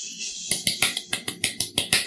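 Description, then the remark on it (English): Paper being crumpled in a quick series of about a dozen sharp, crackling bursts, bright and hissy, coming in a fairly steady rhythm with no talking. “Someone's crumpling paper.”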